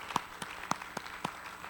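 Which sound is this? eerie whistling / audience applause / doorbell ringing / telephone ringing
audience applause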